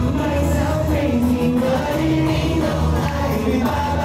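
A boy band sings a pop song live, with layered voices over a steady, full backing track and a constant wash of crowd noise underneath, loud and unbroken throughout.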